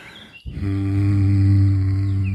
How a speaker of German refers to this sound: Summen entspannt die kleinen Bändchen im Hals, die Stimmbänder, die euch die Töne geben. Und ganz oft, wenn man eine falsche Stimme hat, eine verhärtete Stimme hat, dann liegt es daran, dass die Stimmbänder verkrampft sind. Und dann einfach summen.